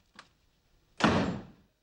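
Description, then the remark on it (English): A door slams shut with a loud, broad thud that rings out briefly, preceded by a small click of the handle. No voices, just the single heavy impact. “The four of them look at the closed door.”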